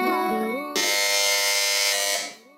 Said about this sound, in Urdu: اس بار سب سے پہلے بزر بجائی ہے ٹیم بی نے.